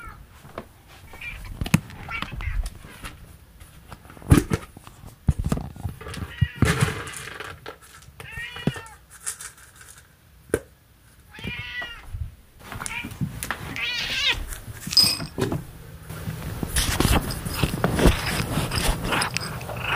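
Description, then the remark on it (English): An 18-year-old cat named Miso meows repeatedly at dinner time, its drawn-out, slightly hoarse cries coming in bursts amid clattering and shuffling noises, with occasional quiet human murmurs in the background. “Your last dinner as an 18-year-old cat.”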